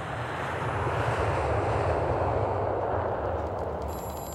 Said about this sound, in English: Sawyer gets on a plane to Washington that night.